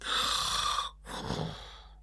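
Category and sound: human body sound, man snoring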